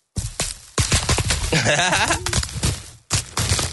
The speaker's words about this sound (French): Bon, les papiers bulles, ça... Ah, de les péter, ça me stresse. Ah, ce petit bruit là, quand on fait comme ça là?